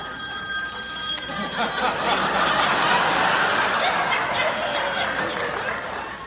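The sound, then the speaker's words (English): A phone rings with thin, steady electronic tones during a sermon, over a murmuring crowd, with scattered chuckles and laughter rising around it. “And now this generation coming up, would you turn your phone off, please?”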